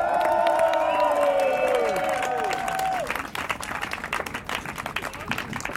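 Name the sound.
crowd applause and cheering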